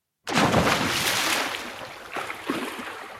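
A sudden, loud splash of something plunging into water, followed by a few seconds of churning, rushing water and a couple of smaller splashes near the end. No voices.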